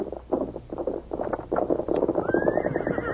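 A horse named Scout approaches with rhythmic hoofbeats, then lets out a high, drawn-out whinny that rises and carries over the steady clopping, loud.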